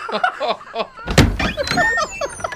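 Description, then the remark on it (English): A door shuts with a single solid thud about halfway through as a young man lets himself out, with muffled voices talking before it and continuing faintly afterward. “why don't you walk him to the door? But... Oh, no, that's all right. I'll let myself out.”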